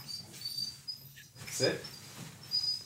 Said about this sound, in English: This is my dog, Arby, after the roast beef place. Arby? Yeah. Oh my gosh, I love that your dog is named Arby. Arby, come on.